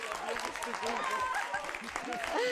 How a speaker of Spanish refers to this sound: Oye, a todos. Se merece un aplauso a vuestro compañero, ¿no?